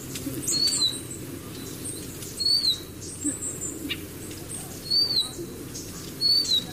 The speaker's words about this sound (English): It's a very distinctive whistle that carries quite far.